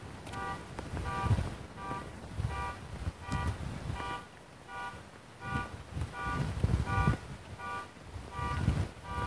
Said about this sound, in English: Just hope that's not my car. Auto alarm honking.